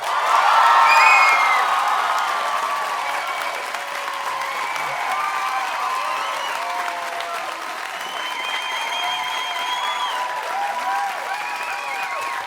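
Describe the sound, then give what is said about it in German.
An audience at an evening show applauds a performer being introduced, with loud clapping peaking in the first two seconds and then holding a dense, even patter, some faint cheers and whoops mixed in. “Euer Applaus für Herr!”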